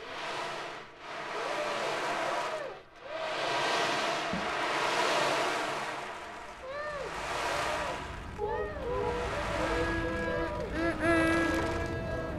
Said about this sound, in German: Es war in einer Stadt am Meer. Die Wellen klatschten auf den Strand.